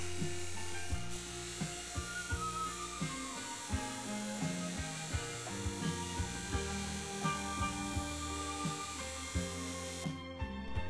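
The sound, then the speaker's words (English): A steady motorized whine of a spinning polishing wheel with buffing compound runs throughout, with faint scraping and shifting tones as metal rods and spacers for a clock are pressed against it and moved, keeping them shiny. No voices, continuous. “Using buffing compound on your polish wheel keeps your rods and spacers nice and shiny.”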